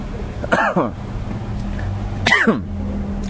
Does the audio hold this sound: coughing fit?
yes